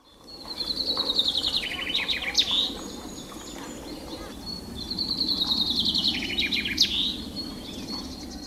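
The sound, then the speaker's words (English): A chaffinch sings two phrases of a Flemish song, each a bright descending trill ending in a quick upward flourish that Flemish finch keepers call a suskevit, heard clearly over a steady low background rumble. “Birds from Flanders sing a song which ends with a particular flourish, which Flemish finch keepers, known as finconeers, call a suskevit.”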